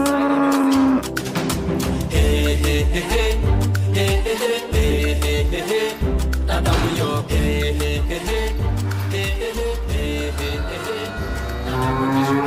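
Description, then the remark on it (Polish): Maasai music plays loudly and continuously, a rhythmic group chant with deep, guttural bass vocal pulses repeating steadily beneath layered, droning voices. “Masajny music!”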